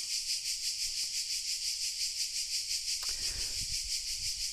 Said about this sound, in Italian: Abbiamo la compagnia delle cicale anche oggi, che fanno tanto estate e fanno cornice.